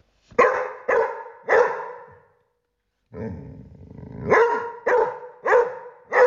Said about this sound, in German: Hast du es erraten? Das war nämlich mein Hund Carlos.